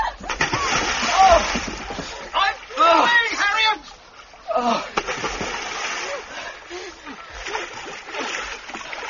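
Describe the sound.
Loud splashing and sloshing water in several bursts as a small boat capsizes and people plunge into the water, with voices calling out over the commotion.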